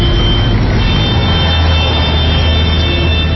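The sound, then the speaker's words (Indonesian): Dense, steady rumble of a traffic jam on a street in Jakarta on a weekend, engines idling and droning, a constant low hum filling the scene without a break and no voices. “Aduh, macet banget sih. Padahal kan weekend.”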